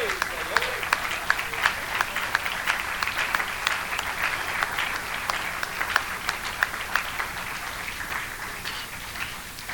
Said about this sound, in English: It makes me want to leap for joy. It makes me want to clap my hands and shout unto my God with a voice of triumph.